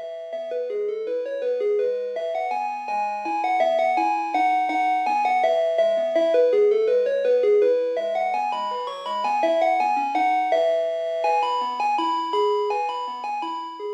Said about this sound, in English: If you're trying to recall the specific jingle from your childhood, it's likely a version of this tune played on the chime-like bells that were attached to the truck.